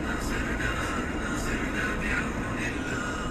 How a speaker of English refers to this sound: I hope listeners who are listening to this cast lackadaisically press their bellies to the floor. That sound of the above-ground M-train.